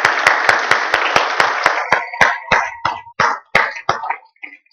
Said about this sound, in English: Okay, church, if you would, let's give all of our fathers a round of applause.